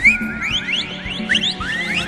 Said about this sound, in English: A high, thin whistle sounded, which was answered by others behind him. He heard more to the right, and the left, and ahead.